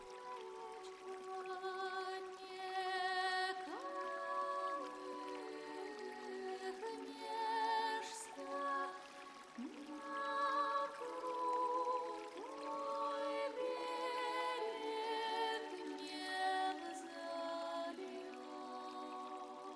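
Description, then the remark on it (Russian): Flowing river water babbles and trickles continuously, with bright liquid plops and bubbly rising tones over a steady murmur. No one speaks. “Видит, течет молочная река в кисельных берегах.”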